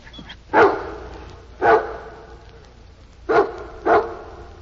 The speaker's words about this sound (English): Now, Rennie, take another sniff. A good sniff and bark. Oh, come on, Rennie. Don't be a sissy. The smell won't kill you. Sniff.